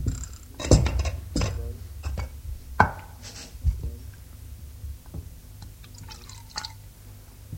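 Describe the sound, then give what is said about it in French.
Coffee heated in a saucepan splashes and drips as it is poured into a bowl, with irregular clinks and small knocks of crockery scattered throughout, no voices present. “Puis, remplit son bol.”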